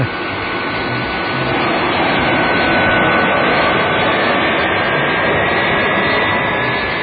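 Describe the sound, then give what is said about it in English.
A jet airplane engine roars steadily and loudly at takeoff, a dense rushing noise with a faint high whine slowly rising through it, holding for the whole stretch with no voices. “He gives me an airplane.”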